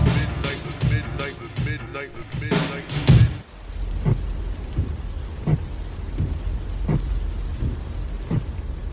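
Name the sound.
rain falling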